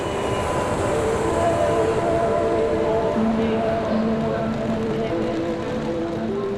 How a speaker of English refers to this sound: Behind me there's a cascade of wheels rolling across asphalt, rushing towards the train. We're all going to the tango festival in Seinäjoki.